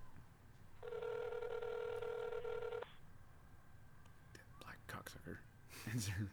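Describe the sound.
A phone call on speakerphone rings out on the line, one steady ringing tone of about two seconds while waiting for an answer, followed by faint clicks and soft, whispery voices.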